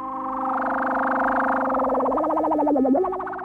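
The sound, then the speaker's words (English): A buzzy Moog synthesizer tone holds steady, then wobbles and bends downward in pitch with a fast vibrato before fading, heard alone and fairly loud for about three seconds. “In the mid-1960s, Bernie was one of the first people to master the Moog synthesizer, an electronic machine that could make a whole new world of sound by generating lots of different tones and bending them into never-before-heard shapes.”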